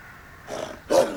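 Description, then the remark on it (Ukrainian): A huge wolf with bristling fur and bared fangs growls menacingly in two short, rough bursts, the second louder and harsher, after leaping out of a snow pit in a snowy forest, with no talking over it. “Раптом із снігової ями вискочив велетенський вовк з наїжаченою шерстю, з вишкіреними іклами і грізно загарчав.”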